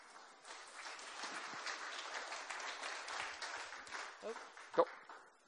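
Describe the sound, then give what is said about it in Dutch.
An audience breaks into steady applause for a woman invited to come forward and speak, a dense wash of many hands clapping that holds for several seconds, with a brief louder burst near the end. “Zullen we mijn lieve schat eens een geweldig applaus geven?”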